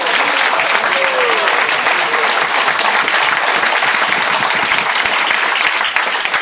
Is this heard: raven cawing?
no